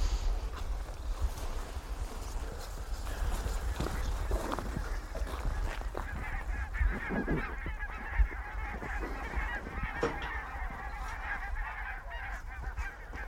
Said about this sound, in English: These are barnacle geese. They're sleeping on the Solway, roosting out of the range of foxes and stuff, and this is just them drifting into the marshes. Okay. That is a very small flock.